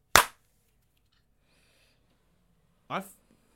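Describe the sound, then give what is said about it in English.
A single sharp, loud clap cracks out at the start, two hands striking so perfectly together they sound like one; a short quiet pause follows before a brief burst of voice. “I only heard one clap, which meant I'm pretty sure both claps were so synced, it sounded like one just, to me.”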